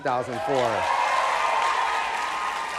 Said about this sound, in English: A bunch of you guys are clapping and you weren't born yet. I guess you enjoyed it later.